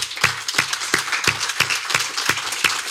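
An audience applauds steadily, a dense wash of clapping with a few sharp, rhythmic claps standing out at an even beat. It stays fairly loud throughout, and no one speaks.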